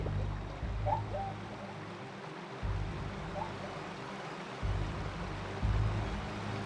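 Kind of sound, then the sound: nature, rushing river current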